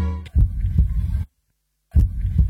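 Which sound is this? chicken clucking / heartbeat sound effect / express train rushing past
heartbeat sound effect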